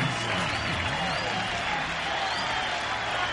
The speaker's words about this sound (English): … are ready to play, and the crowd is getting restless.